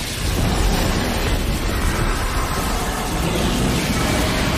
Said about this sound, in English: He lands in front of the power plant and touches the walls. Beams of light shoot into Parasite. The reactor crackles with electricity.